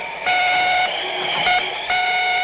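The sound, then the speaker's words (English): An EDF device carried on the back on a snowy trail beeps three times in an uneven rhythm: loud, buzzy tones with a long first beep, a short second one and a third still sounding at the end. No one speaks. “And on my back, I had an EDF that went beep, beep when I was on the trail, and beep, beep when I lost my way in the snow.”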